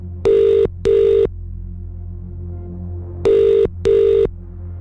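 telephone ringing

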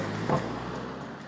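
car driving past

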